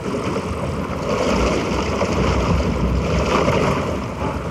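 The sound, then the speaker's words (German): Water rushes and splashes in a steady, continuous wash, fairly loud, with a slight swell in the middle and no voices. “Sei still, sie spricht. Plätscher, plätscher, rausche, rausche.”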